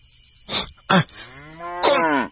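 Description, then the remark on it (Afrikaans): A cow moos, a drawn-out bellow that rises and falls, broken by a couple of short snorting huffs near the start and ending in a loud final push. “Mal koei, ga uit!”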